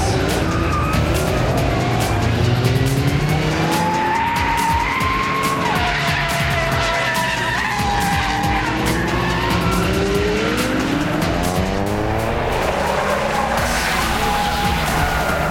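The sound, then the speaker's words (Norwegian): A drifting car skids with sustained, wavering tire squeals over a loud, revving high-horsepower engine, sliding under control with lots of smoke, continuous for the whole stretch, with no voices present. “Drifting handler om å kontrollere en bil som ute av kontroll. Det sladding med bil, masse røyk, masse hestekrefter.”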